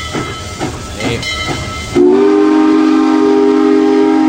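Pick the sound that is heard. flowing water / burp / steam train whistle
steam train whistle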